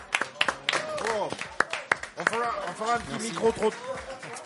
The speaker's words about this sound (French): Et sur la durée de cette émission, ouais, c'est pas facile, on peut les applaudir. Ce qui est un challenge, bravo.